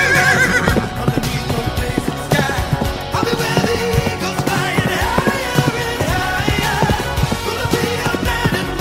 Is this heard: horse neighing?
yes